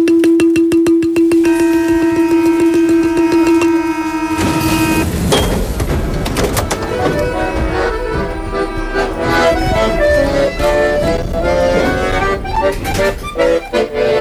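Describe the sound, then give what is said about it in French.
A balafon rolls a rapid tremolo on one steady note, imitating a metro door-closing chime, then gives way to a busier, clattering wash of mixed tones and noise. “Et je me demandais, est-ce que vous pouvez me faire, avec un de ces balafons, juste la note, vous savez, des portes du métro qui se ferment.”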